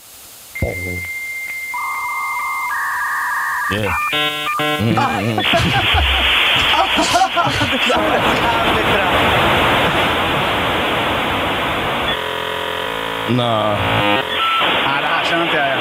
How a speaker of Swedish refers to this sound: Här har vi ett ljud på dial-up modem. Handshake sound. Så här låter det.